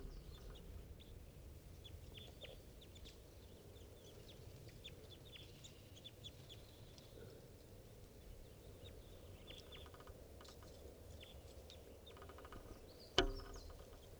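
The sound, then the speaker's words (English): A flock of birds perched in a tree above a net calls steadily, with many short, high-pitched lob calls overlapping over a low constant rumble, including birds numbered 387 and 305; the calls stay fairly soft, and a single sharp click stands out near the end. “And the lob calls there is bird 387 and also 305 calling.”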